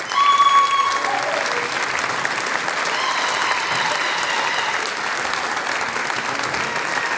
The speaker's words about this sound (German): Auch er hat sich den Applaus noch einmal verdient.